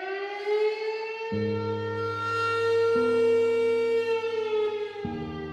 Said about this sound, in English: The town of Minden finally stopped sounding the siren in the fall of 2023.